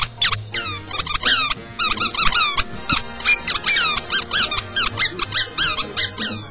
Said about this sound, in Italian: Ma vuol dire qualcosa anche la trombetta?